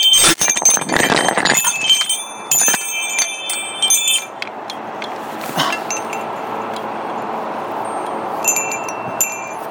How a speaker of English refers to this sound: I'm coming down. These winds are strong enough that I don't really want our wind chimes getting damaged.